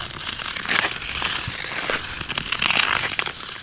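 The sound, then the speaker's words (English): Ice skates scrape across canal ice in a steady, gritty hiss, with rough strokes swelling and fading in an uneven rhythm. No one speaks. “Early in the morning when the sun comes up and there's hardly anybody on the canal and you can just hear your skates.”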